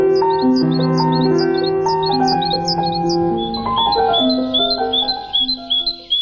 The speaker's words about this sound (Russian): «Птицы зимой». Записи Ирины Петерс.